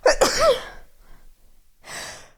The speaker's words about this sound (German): Oh Gott, Entschuldigung, ich habe ja noch ins Mikrofon genießt. War bestimmt schön laut für euch.